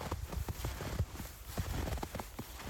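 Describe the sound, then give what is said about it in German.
Footsteps crunch through fresh snow at a steady walking pace on a dog walk through a snowy landscape in Vienna, about five or six crisp steps with soft, gritty texture between them and no voices. “Die Schritte im Schnee, das ist so ein magisches Geräusch, ich liebe es.”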